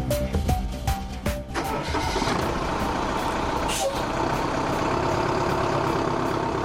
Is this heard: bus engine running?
yes